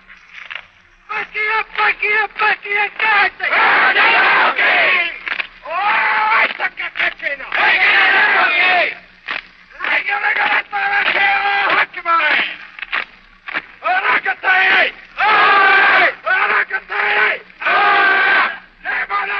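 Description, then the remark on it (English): A school rugby team of boys, gone into a huddle, chant a Maori haka war cry as their school cheer in loud, rhythmic shouts, their voices rising and breaking off in forceful bursts with brief pauses between phrases. “I asked the boys what they used as a school cheer, and the rugby team went into a huddle to perform a haka, spelled H-A-K-A, a Maori war cry.”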